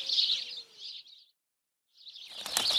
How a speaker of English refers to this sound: Sorry, Mom. Bad birds.